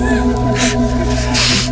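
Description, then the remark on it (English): A person on a street in Britain imitates an elephant trumpet with a sustained, buzzing, brassy voice, broken by two breathy blasts of air, loud for just under two seconds. “We asked 9 people on the streets of Britain to do an elephant noise.”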